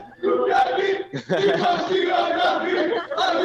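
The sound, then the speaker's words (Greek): A stadium crowd in the stand at a ground a few kilometres outside Thessaloniki, Greece, chants slogans in unison, a loud, dense wall of voices with rhythmic swells and a brief dip before the chant surges back, sustained throughout. “Ακούγονται πολύ καλά και τα συνθήματα και όλα.”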